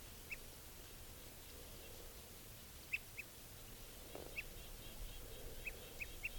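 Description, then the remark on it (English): Several short, bright type 2 crossbill alarm and toot calls ring out at irregular intervals, some in quick pairs, against a steady outdoor background hiss; the calls sound soft. The bird is in a tree right above a net. “Giving alarms and toots now.”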